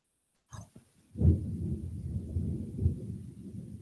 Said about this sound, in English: Wow, I don't know if you can get that on my mic, but it is really coming down, and lightning and everything else. And I just want to quick switch topics because we got severe storms coming through here.